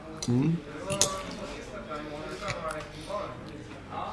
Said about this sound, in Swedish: Ursäkta, vi tuggar.